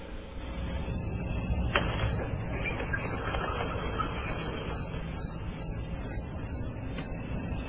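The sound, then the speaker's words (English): Crickets chirp in a steady, unbroken high-pitched trill, filling the quiet with no voices or other sounds, the kind of awkward silence that follows a joke falling flat. “Yes, and the crickets have spoken, I believe.”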